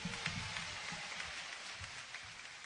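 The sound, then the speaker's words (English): Steady applause from an audience for the band, a dense crackle of many hands clapping at once with scattered sharper claps poking through, holding at an even level throughout. “I got to do some more here, but let's give the band a big round of applause, ladies and gentlemen.”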